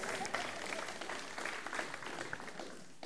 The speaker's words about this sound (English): All right, give him a round of applause, I reckon.